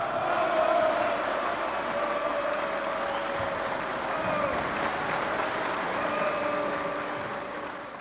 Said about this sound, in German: Diesmal gibt es langanhaltenden Applaus. Du hattest es schon gesagt, es ist das Jahr 1952.